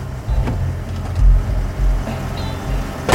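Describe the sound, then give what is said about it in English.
A car's engine rumbles low as the oncoming car slows to a halt on a road, with a couple of brief clicks or knocks over the steady idle and no voices. “He levels the pistol at the oncoming car. It slows to a halt.”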